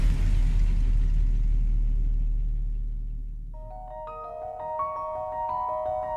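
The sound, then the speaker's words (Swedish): An automobile engine rumbles loudly and low in early twentieth-century Europe, rolling along for a few seconds before fading away as a light, chiming melody of bright tones takes over. “in vi kommer på det nya århundradet, desto fler automobiler rullar runt i Europa.”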